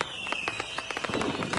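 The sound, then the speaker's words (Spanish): A string of firecrackers, a traca of fireworks, crackles off in quick, irregular bursts, sharp pops tumbling over one another, with no voices over them. “Alejados de la traca de fuegos artificiales también.”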